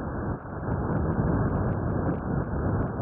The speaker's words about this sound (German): Ich weiß, klingt erstmal nur wie ein beliebiges Rauschen, aber was Sie da hören, ist der Sound eines Bakteriums. Forschende der Technischen Uni Delft in den Niederlanden haben es nämlich geschafft, Bakterien hörbar zu machen.